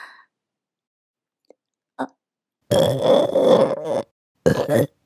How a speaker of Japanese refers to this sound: あ、やっべ、ゲップ出そう。